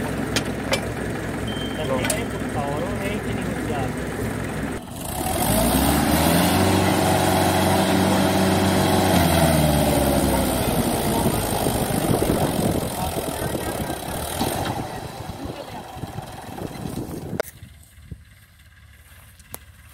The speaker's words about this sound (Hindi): ये देखिए किसान भाइयों, फार्म ट्रैक 45 न्यू मॉडल आते हुए, अब ये जो है अपनी ताकत के जौहर दिखाएगा।